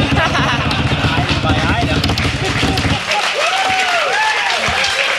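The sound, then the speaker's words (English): A crowd cheers and applauds loudly, dense clapping and roaring voices filling the first three seconds, then thinning into scattered whoops and rising shouts as the applause fades. “And the crowd's going wild.”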